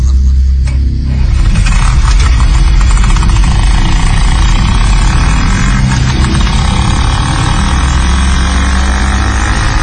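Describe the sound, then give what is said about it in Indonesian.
A motorcycle engine runs steadily throughout while riding through the quiet night streets of Bandung, a loud, rumbling drone with a rough, throbbing texture and some passing wind noise, with no one talking. “Aku mengantarkan Bang Fitra dengan sepeda motor.”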